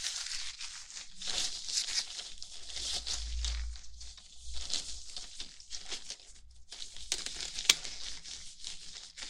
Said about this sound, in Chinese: 还有，从抽屉里拿出我的手套。